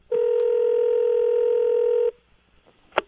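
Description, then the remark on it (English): A steady, loud telephone dial tone hums for about two seconds, then cuts off; after a short quiet pause, a single brief keypad beep sounds. No one speaks. “And maybe even time to take a phone call from 41.”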